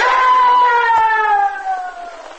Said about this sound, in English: Good Lord. I heard a man scream. What happened?